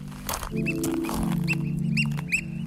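Oystercatchers on Portland Island, across the channel from Juneau, Alaska, call in a run of sharp, high piping notes, some close together and loud, over a steady low rumble.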